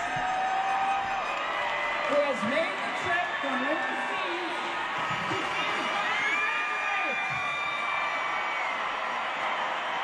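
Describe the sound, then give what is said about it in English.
A large crowd at a UNLV graduation cheers and shouts continuously as a U.S. Navy father who flew in from Dubai surprises his graduating daughter, with excited whoops and overlapping voices rising over a steady roar of noise for the whole stretch. “Wasn't that crowd?”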